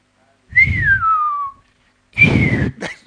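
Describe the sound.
A person whistles twice: a long, sliding note that falls in pitch, then after a brief pause a shorter one, both loud and breathy with no talking.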